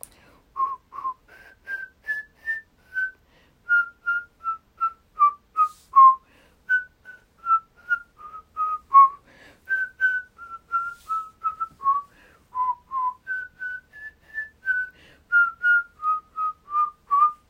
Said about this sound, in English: I will do the lovely classic Twinkle Twinkle Little Star. Oh, I'm not a good whistler though. Ooh, I've whistled so long.